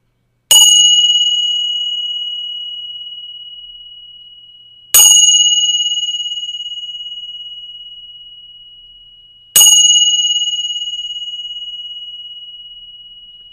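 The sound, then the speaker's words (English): A bell is struck three times at slow, even intervals, each clear metallic ring sustaining and fading gradually into silence before the next strike. No voices are present. “I'm going to ring the bells again, and this time I'd like you to listen to it not with your ears, but with your body.”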